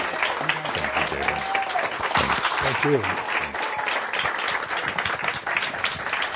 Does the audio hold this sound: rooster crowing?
no